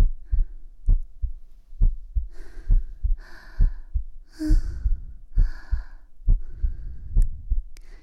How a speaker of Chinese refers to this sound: 心跳很快啊。吵死了，刚才明明说了心跳太快姐姐会停下来的。